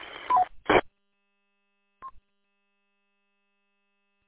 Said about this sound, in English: Copy that. On your next transmission, I'm going to listen. It kind of sounds like you have a Roger beep at the end. Not 100% positive.